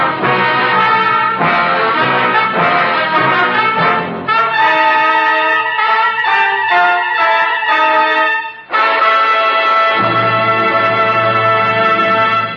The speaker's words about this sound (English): Chimes mean good times on NBC.